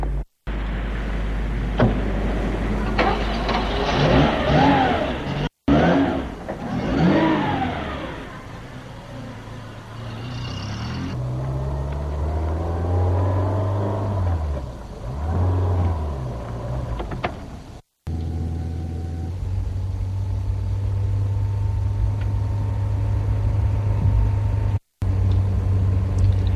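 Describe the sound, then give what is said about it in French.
A black Rolls-Royce driven by a chauffeur idles with a low engine rumble, then revs up and pulls away, its pitch rising and falling through several gear changes before settling into a steady drone. “Franck dit à Jean-François, « Venez !» Et ils entrent dans la voiture.”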